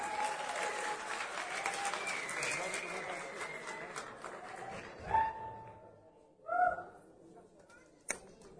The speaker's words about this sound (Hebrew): אני מתכבד להזמין את כבוד, את סגן ראש העיר, האחראי על הערב הנהדר הזה, קבלו בהרבה מחיאות כפיים את סגן ראש העיר הרב שלמה עזרן שליטה.